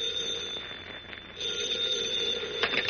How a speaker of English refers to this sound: In his hotel room in the state capitol, Editor Perry White, mayor of Metropolis, has his hat and coat on and is about to leave the room when the phone rings.